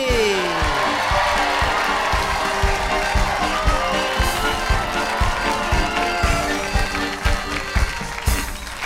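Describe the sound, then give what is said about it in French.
A crowd applauds and cheers steadily to welcome the show Le cirque de Mémé. Dense clapping and whoops fill the space at a loud, constant level, with music playing underneath throughout. “Mesdames, mesdemoiselles, messieurs, je vous demande de réserver un accueil particulier, un tonnerre d'applaudissements au cirque de Mémé.”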